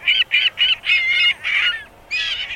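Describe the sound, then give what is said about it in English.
Gulls call loudly in a quick run of harsh, nasal squawks, the later cries drawn out longer, with no talking. “In Chicago, young ring-billed gulls are heading for Lake Michigan. And before long, juvenile herring gulls will be soaring over the Atlantic Ocean.”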